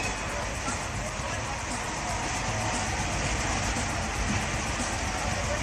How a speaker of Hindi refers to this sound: अरे मैया रे ये तो बड़ी भीड़ बा।